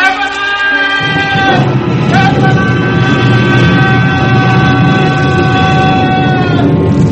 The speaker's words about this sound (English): The roar was deafening. The avalanche gained in momentum. Millions of tons of rock and ice and snow flowed like a gigantic wave of water down, down, down, down, down, down, down.